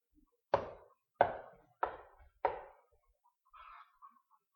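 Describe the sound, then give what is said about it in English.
Four firm knocks on a door, evenly spaced about a second apart, each with a sharp attack and short wooden resonance, followed by a faint shuffling sound. “He's knocking.”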